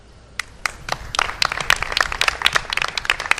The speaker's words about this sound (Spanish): la Plaza de María Pita de la Corporación Municipal junto con Ciudadanos para mostrar su condena y rechazo por los dos últimos asesinatos machistas de dos mujeres en las provincias de Barcelona y Madrid. Tras guardar un minuto de silencio, aplausos.